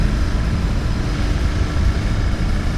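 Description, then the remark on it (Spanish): A Himalayan dual-purpose motorcycle with a 411 cc engine rumbles steadily while riding off-road toward a dry lagoon, a loud, continuous low drone with a gritty texture and no breaks, and no voices over it. “Es nuestra primera motocicleta doble propósito. Un motor de 411 centímetros cúbicos,”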